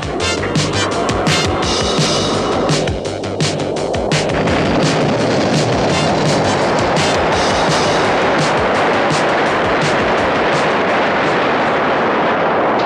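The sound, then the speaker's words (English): The X-Bomber spaceship's engines roar as it comes in to land at Moonbase, a loud, steady rushing rumble with crackling bursts and a droning whine that fades after the first few seconds, with no voices. “X-Bomber coming in to land! Open the launch doors now!”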